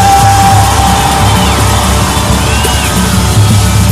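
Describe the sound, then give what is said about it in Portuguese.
A large crowd shouts and cheers together, a loud, sustained roar of yelling and whoops that fills the space without letting up. “Quem gostou dá um grito.”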